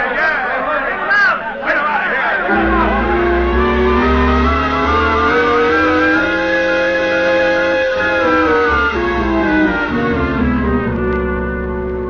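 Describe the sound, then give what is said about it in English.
A loud, angry crowd milling around outside the jail in Weatherby, Arizona, shouts and mutters, demanding a man be sent out, starting with a jumble of raised voices before swelling into a sustained roar that rises and falls without a break. “The shouting and muttering of the crowd milling around outside the jail in Weatherby, Arizona.”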